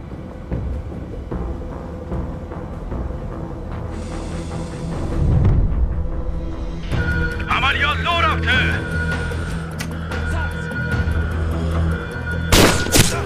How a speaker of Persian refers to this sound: دشمن تیر خورد. تعداد بیشتری دارن. دارن به همون شلیک میکنن. به پشتیبانی نیاز داریم.